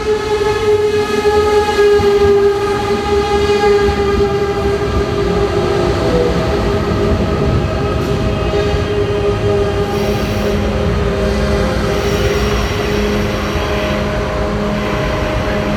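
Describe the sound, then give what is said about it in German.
An ICE high-speed train at the railway station in Coburg, its loud, steady rumble and droning motor whine filling the whole stretch, with sustained humming tones layered over the noise and no voices. “Ja, das ist auch der einzige ICE halt, glaube ich, so am Tag.”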